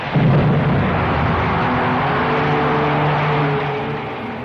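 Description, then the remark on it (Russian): A loud, sudden pyrotechnic burst erupts as the ring framing a 10-metre disc above the performers on a concert stage explodes into sparks, turning into a steady, roaring hiss of a fountain of fire, with a low hum underneath, holding for several seconds before easing off slightly at the end. “Открывается занавес, и над артистами 10-метровый диск, и обрамляющее его кольцо вдруг взрывается искристыми брызгами, переходящими в фонтан огня.”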